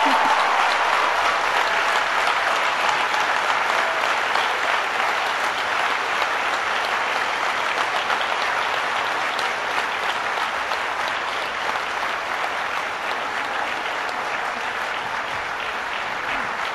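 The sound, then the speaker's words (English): A large crowd of standing graduates of the class of 2014 claps steadily for a sustained stretch, applauding the family, friends, professors, librarians and staff who supported them. Dense, loud applause with no pauses, a broad wash of hand claps from many people at once. “Look around you and give a big round of applause to all of those who supported you.”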